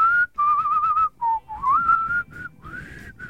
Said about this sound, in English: I have like, I can hit like two notes. Too hairy. I can whistle like this too. This is as high as I can get. That's a tongue whistle.